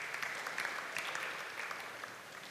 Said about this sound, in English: Just clap your hands over there.